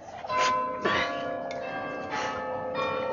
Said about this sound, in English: Amen. Amen to the bells, Father. They broke in like a grace, dearest. And now I can eat. They talk to you, don't they?